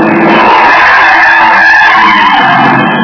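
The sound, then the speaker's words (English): Car tires skid with a loud, sustained screech lasting about three seconds, a harsh high squeal that stays intense throughout, with no voices, as the driver swerves onto the far sidewalk to miss a man who darted into the street on Marlin Boulevard one afternoon. “I cut the wheel, climbed the far sidewalk, managed somehow to keep from turning over, and missed the jaywalker by inches.”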